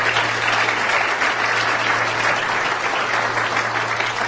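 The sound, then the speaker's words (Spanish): An audience claps steadily for a couple receiving a 25% recognition, a dense, even wash of many hands with no breaks or swells, holding the same strong level for about four seconds beneath a faint low hum. “Para los que pido un fuerte aplauso.”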